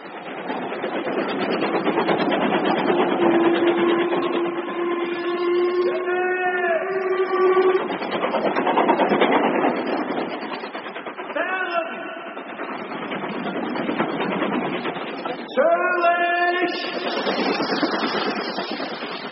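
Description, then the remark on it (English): A steam train travels to Dover with a loud, continuous rumbling roar, broken by a long steady whistle and several shorter wavering whistle or brake-squeal tones. “And so we took the train to Dover and thence crossed to the continent.”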